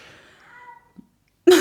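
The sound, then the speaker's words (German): A single drawn-out meow from Milo, a tomcat, fairly soft, its pitch sliding down as it fades, followed by a short pause, a faint knock and an abrupt loud burst of noise at the end. “Habt ihr das gehört? Das ist der Kater.”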